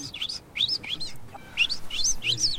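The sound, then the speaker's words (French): A person whistles an imitation of a goldfinch, the whistle once used to call back a tame goldfinch: quick, high, twittering chirps in short bursts with brief gaps, fairly clear and steady, with no talking. “Mais quand je sifflais comme ça, il reconnaissait.”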